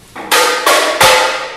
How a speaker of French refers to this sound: Ensuite, on va avoir le tambourim,